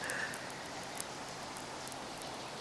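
Steady rain falls and patters on the roof of a bandstand, a soft continuous hiss broken by scattered sharper drips. It's fairly quiet and even throughout, with no voices.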